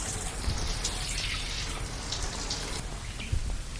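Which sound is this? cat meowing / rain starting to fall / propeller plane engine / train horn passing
rain starting to fall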